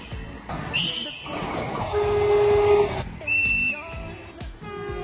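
Several shrill whistle blasts from a Feve metre-gauge train on the Ferrol–Oviedo line, sounded at stations where it does not stop: one high and piercing, then a long steady lower tone, then another high blast, over rumbling rail noise with a faint murmur of voices.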